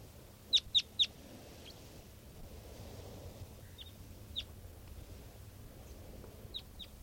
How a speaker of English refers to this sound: And this is another one of the birds. Looks like an adult male here.